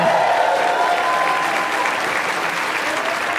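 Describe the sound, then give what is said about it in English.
An audience at a live New York show applauds steadily to welcome a special sit-in piano player, a dense, continuous patter of many hands clapping at a fairly loud, even level throughout, with no voices standing out. “Please give it up”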